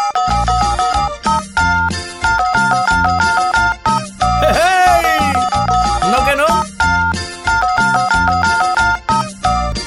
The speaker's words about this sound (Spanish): Pero no cualquiera convierte su teléfono en un teclado y se avienta unas cancioncitas usando la marcación.